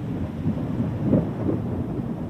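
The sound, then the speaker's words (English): Heavy rain pours down in a steady, dense hiss, with a deep rumble swelling underneath like thunder. It's fairly loud and continuous throughout, with no voices. “The rain's really coming down now.”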